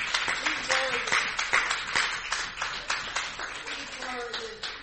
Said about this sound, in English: Would you clap your hands to the Lord one more good time?